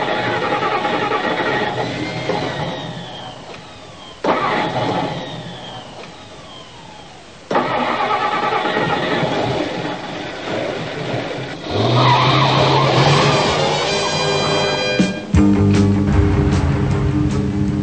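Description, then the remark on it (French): Batman's car, driven by Robin toward Gotham City, revs and roars through repeated bursts, with tires squealing and skidding in sharp sweeps, then a steady, loud, forceful engine drone takes over near the end. “Normalement, c'est toujours moi qui conduis, c'est ma voiture.”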